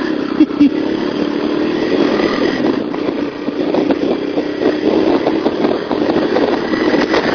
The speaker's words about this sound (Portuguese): Ai, tava esquecendo, tinha colocado afogador na moto.